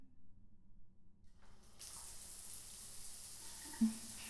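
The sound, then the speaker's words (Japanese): A shower is switched on partway through as its temperature is adjusted before hair washing at a bath, and a steady hiss of running water takes over from the quiet, low rumble that came before. It stays even and continuous, with a small splash near the end. “私は先にシャワーの温度を調整しますね。”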